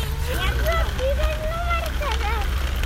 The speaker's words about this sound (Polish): W parku jesteśmy, delikatnie się chyba ulica przebija. Ale bardzo, jakoś dzisiaj wyjątkowo, delikatnie, może dlatego, że tu te fontanny są włączone i słyszę wodę. Szum wody i dziecko.